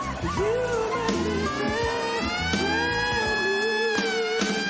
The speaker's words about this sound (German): Das geht so weit, dass manche Künstler oder Talente, wie man hier so im Apollo sagt, die dürfen gar nicht zu Ende performen, sondern die werden nicht nur ausgebuht, sondern von einer Sirene weggedröhnt. Das klingt dann so.